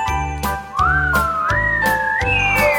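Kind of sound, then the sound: vocal imitation, whistling imitating the wind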